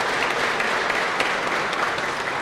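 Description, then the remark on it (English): A crowd of people clapping steadily, a dense, continuous patter of many hands at an even loudness throughout, with no voices standing out. “He's where we tell him all he's working for a tobacco company and everyone tries to clap backwards.”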